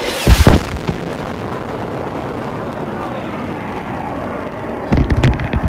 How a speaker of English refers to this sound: when this giant fucking plane just flew over me and it shook everything. So now I'm going to see what the fuck it is. It just came tearing through the field